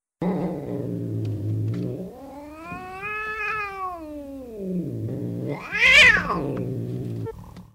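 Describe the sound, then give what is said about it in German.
An anxious cat growls low and steadily, then breaks into a rising, wavering yowl that swells loud before sinking back into a rumbling growl, with no talking. “Und manchmal knurrt sie auch, damit ihr bloß niemand zu nahe kommt.”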